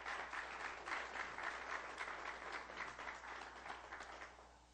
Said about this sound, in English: Ladies and gentlemen, let's welcome each and everyone who'll be watching today by internet with a wonderful hand of applause in his house.